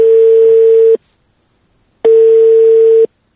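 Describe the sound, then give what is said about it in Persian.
Two steady, loud telephone ringing tones, each about a second long with a one-second pause between, as a call placed by Radio Azadi on Thursday around dinnertime connects on the line. No voices are heard. “حالا توجه شما را با آخرین نمونه آن جلب می نماییم که روز پنجشنبه طرفای شام به شماره تلفن مورد نظر تلفن کردیم. نتیجه چنین است.”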